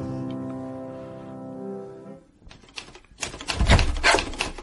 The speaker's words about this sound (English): Aha! Typing, are we? No, dung beetle, I am typing.